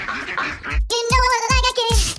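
Several ducks quack in quick, overlapping, loud nasal bursts, following a short stretch of softer murmuring noise.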